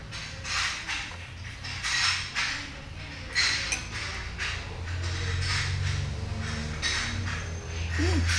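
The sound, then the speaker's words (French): Steady rhythm of sharp clacking bursts, roughly two per second, of jaws chewing a croque-monsieur in a back room, over a low steady hum. No voices. “On entend le claquement des mâchoires.”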